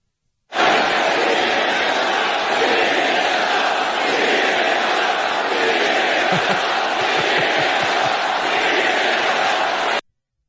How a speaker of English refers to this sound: in case you couldn't understand because of the number of the crowd, they were chanting CNN sucks, CNN sucks